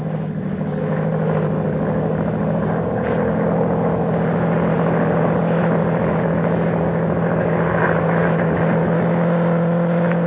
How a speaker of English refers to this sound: Low down in the south, a monoplane was climbing into the heavens. I was as certain as if I'd been told that that aeroplane was looking for me.